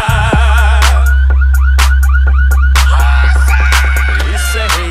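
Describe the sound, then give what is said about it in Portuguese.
A warbling pickup truck alarm, set off by a heavy bass sound system, wails steadily and loudly for the whole stretch, riding over a thick booming bass layer punctuated by sharp, regular percussive hits. “Os gravão pesado tão tremendo os carandá, e os alarmes das caminhonetes já começaram a disparar.”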